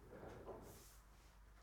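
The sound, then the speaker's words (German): A door is moved open or shut with a brief scraping, rumbling sound, followed by a short hissy rush; fairly quiet, with no voices. “Ja, die Türe, ich weiß auch nicht”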